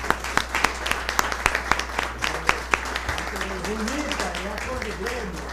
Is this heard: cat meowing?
no